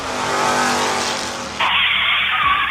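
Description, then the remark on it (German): A white van's engine roars, then breaks into a loud, high screech of spinning tires as it pulls away fast carrying bicycles. No voices. “Und keines der Bikes, die mit diesem Van wegfahren, sieht man jemals wieder.”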